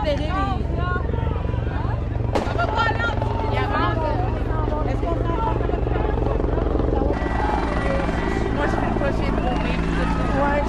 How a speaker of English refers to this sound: And a helicopter is over us now, and I can clearly see that it says police on the side of the helicopter.